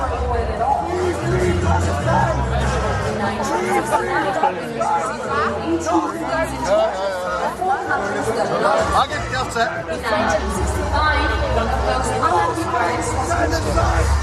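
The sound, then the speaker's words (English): A large arena crowd chants as Israel's Noam Beitan takes to the stage, a dense, continuous mass of overlapping voices with a low rumble underneath, holding a steady, loud level for the whole stretch. “As Israel's Noam Beitan took to the stage, chants could be heard in the crowd.”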